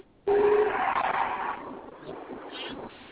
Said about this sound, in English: Oh, yeah, here we go. This is one of my alarms, okay? I set this every hour on the hour so I can remind myself during the day to tell my children I love them.